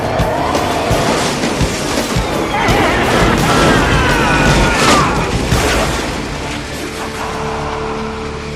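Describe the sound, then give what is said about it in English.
A speeding car roars by, its tires squealing in a long skid before loud crunching crash impacts, then the engine settles into a steady hum. “Perhaps we should slow down at the teensy-weensy bit.”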